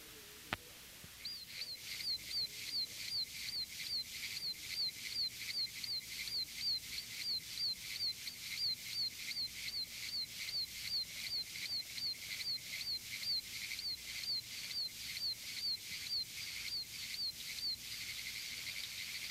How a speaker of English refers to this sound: Bufo quercicus, is the smallest of our native toads, becoming no larger than a quarter. It occurs statewide. Its call is a high-pitched peep, very much like that of a baby chick. It is heard here with a background chorus of Pinewood's tree frogs.